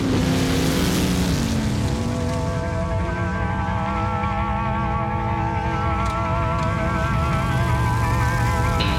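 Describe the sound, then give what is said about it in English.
Sprint car engines roar loudly and continuously at a sprint car race, their pitch wavering and rising as they rev, filling the whole stretch with a dense mechanical howl and no voices. “Well, good evening, ladies and gentlemen, and welcome to this full throttle thrill show that is World Series Sprint Cars.”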